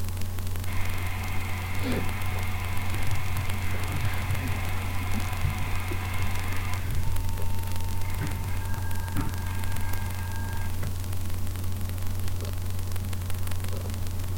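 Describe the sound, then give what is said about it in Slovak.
Steady radio static with a low hum, and very faint, thin electronic data tones from a low-bitrate transmission running through it, holding steady for several seconds before shifting to a lower pitch. “No, v podstate tu je vidieť nejaké veľmi slabé tóny.”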